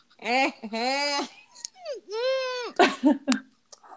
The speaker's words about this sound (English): I actually do have to yawn again. I'm sorry. It's coming. My yawn started and then you stopped it. And I feel like I need to.